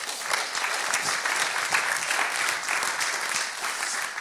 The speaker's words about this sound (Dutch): We hebben ook een team voor die dat maakt. Die dat elke zondag weer maakt. Dat vind ik ook een applaus waard.